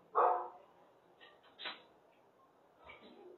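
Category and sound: animal, dog barking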